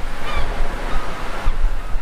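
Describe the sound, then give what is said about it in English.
Steady rushing surf washes against the shore, a broad continuous roar with swelling surges, and faint honking bird calls near the start. “The ocean shore.”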